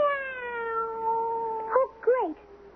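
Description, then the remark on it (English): A cat gives one long, drawn-out meow that slowly drops in pitch, then breaks into two short wavering yowls at the end, fairly loud with no talking. “Now you're just going to sneak out of it, all by pretending to be a plain old cat?”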